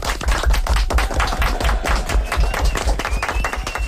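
Audience applause for a participant after an English-speaking exercise fills the whole stretch, a loud, steady wash of many hands clapping in rapid, overlapping bursts with no pause, a faint high tone briefly riding over it.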